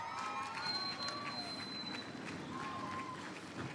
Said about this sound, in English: Let's give our guests a big round of applause.